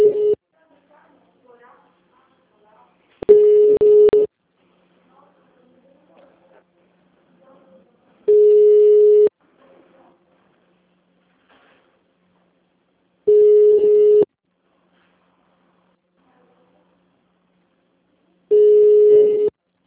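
A steady, mid-pitched telephone ringback tone sounds in five one-second bursts, spaced about five seconds apart, while a call to the Valinhos city hall (Prefeitura de Valinhos) is transferred to another department, with faint background murmurs between the tones.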